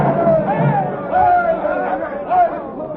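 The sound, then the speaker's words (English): A dense crowd murmurs and chatters continuously as people pour over a town square, many overlapping voices swelling and surging in waves, steady and fairly loud throughout. “He's down, but the people still pour over the square.”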